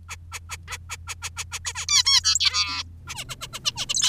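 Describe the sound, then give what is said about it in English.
Zebra finch calls: a quick, steady series of short chirpy peeps, then a brief burst of buzzy, nasal calls before the rapid peeping resumes, over a faint low hum. “Zebra finches share some very similar dating traits with us”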